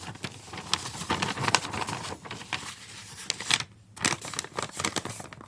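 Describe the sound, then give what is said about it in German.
A sheet of paper is folded in half, giving a run of dry, crinkly crackles and rustles in irregular bursts, with a brief lull partway through before more handling. “Nimm das Papier in die Hand. Falte es in der Mitte.”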